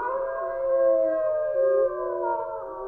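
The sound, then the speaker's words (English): A wolf pack, called the Wolf Pack, howls together on the radio show Voices in the Wood on 2048 AM, several long overlapping wails rising and falling in pitch for a few seconds, fairly loud, with no talking. “And with me on this journey, as always, is the Wolf Pack. Let them hear you, boys.”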